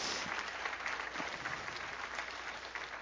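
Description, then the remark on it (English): An audience gives a clap offering, applauding steadily, many hands clapping in a dense, continuous wash that holds at an even level for the whole stretch, loud. “Give them a good clap offering.”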